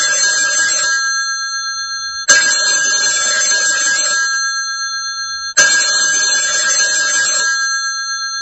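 A telephone rings in an office in repeated bursts, three electronic trilling rings separated by brief pauses, loud with no voices.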